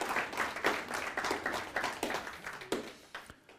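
Audience applause: a dense, steady patter of many hands clapping together for a few seconds, fairly loud, then thinning out into a few scattered claps at the end.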